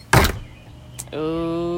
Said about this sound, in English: Hey, come here. Hey. Don't you be shutting the door on me. Listen, I'm talking to you.